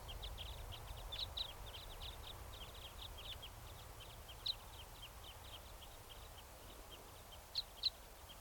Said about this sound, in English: That was a bird. Just flew over.